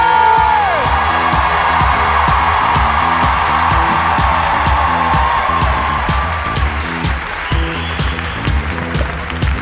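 A crowd claps and cheers loudly and steadily, dense applause with scattered whoops and shouts rising above it, holding strong for several seconds before easing slightly toward the end.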